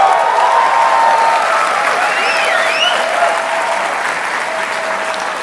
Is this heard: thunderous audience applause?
yes